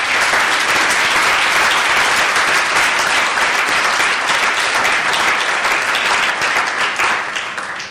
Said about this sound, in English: I think it's an exemplary group of people, and I think we should all give a round of applause for all of them.